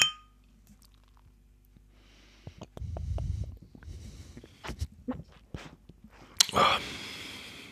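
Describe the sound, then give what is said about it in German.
Glasses clink together once in a toast, a bright ringing chink near the end, preceded by quiet shuffling and handling noises and a low rumble. “Das heißt, ich trinke das jetzt. Prost. Ich trinke es auch. Prost.”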